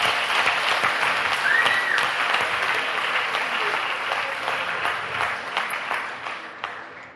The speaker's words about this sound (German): Komm du mal auf die Bühne. Ja. Okay. Kannst hier hochklettern. Einen Applaus für, wie heißt du?